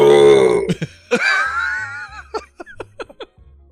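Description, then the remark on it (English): A man lets out a long, loud, rumbling burp, followed by a second shorter belch and a string of brief chuckles and laughing bursts trailing off. “And then here's the burping man.”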